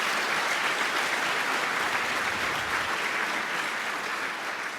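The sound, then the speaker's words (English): A crowd claps steadily for several seconds, a dense, even wash of many hands with no pauses or voices standing out, holding a fairly constant loudness before easing slightly at the end. “I think that's a round of applause and wish them all of love together.”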